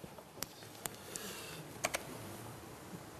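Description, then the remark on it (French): A handful of sharp, irregular key clicks from a computer keyboard as someone tries to open files on a USB stick to play a short film, a few isolated presses and a quick pair, fairly quiet against a soft background hiss with no talking. “On va essayer de passer le petit film, je ne sais pas où est le clavier.”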